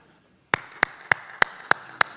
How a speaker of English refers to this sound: So what are you clapping for?